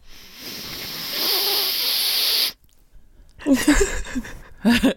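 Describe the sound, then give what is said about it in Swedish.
A long, strained inhale through a blocked left nostril, stuffed for days, of about two and a half seconds, a harsh airy hiss with a faint whistling edge, followed by a brief pause and then someone starting to talk. “Jag har ju varit täppt i ena näsborren i dagar nu.”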